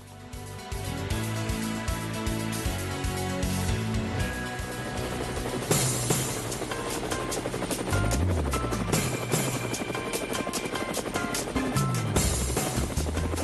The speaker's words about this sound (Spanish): Bueno, ahí está el helicóptero.